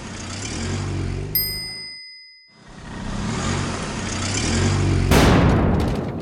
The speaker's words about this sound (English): The man drives to work in a red car.